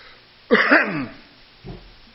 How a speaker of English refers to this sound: And don't worry about this cough. I've had this dry cough all my life. And it comes and goes.